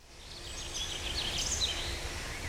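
Moorhens calling faintly, a few short high chirps over a steady hiss of outdoor background noise, with no voices.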